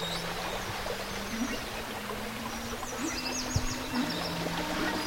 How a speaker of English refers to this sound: The golden shower. Listen. Can you hear it? It calls to me.